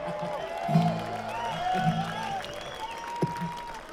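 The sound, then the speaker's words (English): A crowd claps and cheers steadily for several seconds, with scattered whoops and shouting voices rising above the dense wash of applause and one brief sharper burst near the end. “Boy, we drawed a crowd too, didn't we?”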